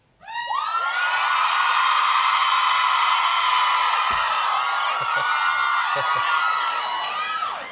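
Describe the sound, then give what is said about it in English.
A huge audience of girls shrieks a fan-frenzy-style scream in sustained, high-pitched unison, a dense wall of screaming that swells in quickly and holds loud for several seconds with a few individual shrill voices standing out. “I said, "All right, let's hear a … scream. Girls, come on."”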